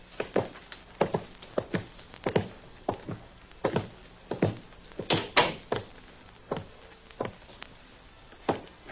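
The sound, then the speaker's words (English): Footsteps and wooden knocks patter unevenly as someone goes through an open door into a room, with a heavier thump and rattle partway through as the door swings shut behind them, followed by more scattered steps. No one speaks. “There is an open door to your left. Go into it. The door will close.”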